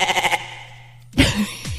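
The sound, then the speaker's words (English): A goat bleats, first a short quavering cry, then after a brief pause a louder, harsher bleat that trails off, with no one talking. “It almost used a goat sound.”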